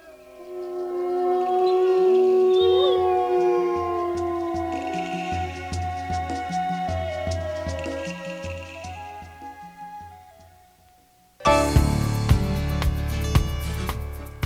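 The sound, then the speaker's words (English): Long, rising and falling gray wolf howls overlap in a chorus over a steady, pulsing low beat, then a loud burst of full music takes over at the end. “Dams are coming down, wolves are coming back, we're cutting Christmas trees in spite of the toxic chemicals.”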